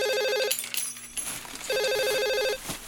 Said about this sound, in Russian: Крис, телефон!